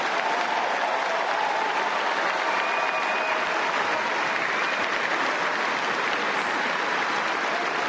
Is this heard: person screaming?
no